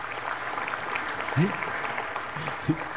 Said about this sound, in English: You gotta wait, don't clap anymore until I tell you to.